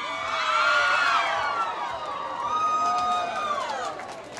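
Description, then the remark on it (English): A crowd of many voices under a giant tent with small campfires cheers and shouts together as a young woman in a Navajo sheep-butchering contest struggles to lift a large stomach out of her sheep, a sustained, lively roar with rising and falling calls over dense chatter. “The crowd reacts as one petite woman struggles to lift an enormous slippery stomach out of her sheep.”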